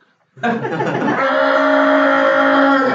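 A car horn from a car driving by on a very busy street blares in one long, unbroken honk lasting a few seconds, loud, with no talking over it.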